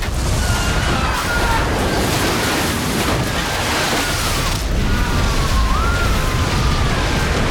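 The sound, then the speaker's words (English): A loud, steady roar of water flooding into a ballroom as the windows give way, thick and churning without letup, with faint thin wavering tones drifting above the rush. “The windows give way and water floods into the ballroom, knocking the people off their feet, swamping them all.”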